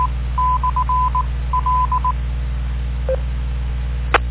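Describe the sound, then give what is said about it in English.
Telephone dialing tones from a voice over IP phone dialing in to an amateur radio transmitter: two quick runs of short touch-tone beeps, about five or six each, over a steady low hum, then a lone faint blip and a sharp click at the end. “I can dial into the Mark's thing and get on the net that way if you give me a moment.”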